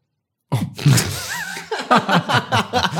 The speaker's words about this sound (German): Da muss ich ja mal ein bisschen aufstoßen. Verzeihung.